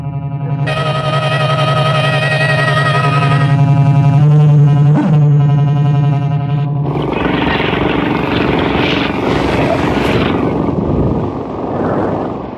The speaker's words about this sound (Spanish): Si esa extraña lancha bólido que pasó como una ráfaga junto a la nuestra... ¿No podría ser una embarcación de esos criminales que nos espiaron y nos siguen?